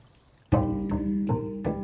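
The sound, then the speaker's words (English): After a brief quiet moment, a fountain in a shaded garden patio in Marrakesh starts pouring steadily, its soft, continuous splashing swelling in small surges every few tenths of a second, with no voices. “Not much other than the rustle of the wind and the soft pouring of a fountain disturbs a sit-down in the shade of a patio.”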